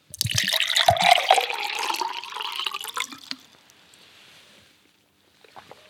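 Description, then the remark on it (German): Someone takes a sip of water: about three seconds of wet, gurgling liquid sounds, then near silence with a soft faint noise near the end. “Ja, ihr habt es richtig gehört, ich habe gerade einen Schluck Wasser genommen.”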